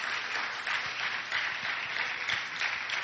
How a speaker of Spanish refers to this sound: Den un aplauso al Padre, al Hijo y al Espíritu Santo.